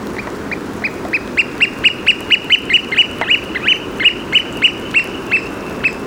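An oystercatcher calls loudly and repeatedly, a steady run of sharp, piercing piping notes about three per second, ringing out over a low rumble of wind and outdoor noise.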